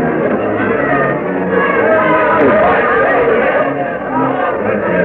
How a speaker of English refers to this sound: The crowd waiting here before the Raleigh Tavern extends far up and down Duke of Gloucester Street.